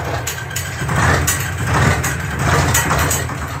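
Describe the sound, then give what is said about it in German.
A heavy tractor engine is started and rumbles steadily, its low idle chugging with a slight rise and fall in loudness and faint rattling on top, with no voices. “Nachdem sie den Korb am Traktor festgezurrt und je zur Hälfte auf dem kleinen Metallsitz hinter dem Steuerrad Platz genommen hatten, startete Corgi den Motor.”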